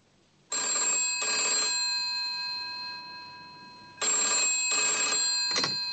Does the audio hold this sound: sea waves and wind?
no